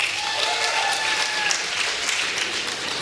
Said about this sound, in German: Und wenn er sagt, hey, das Reh soll es sein, Applaus bitte jetzt.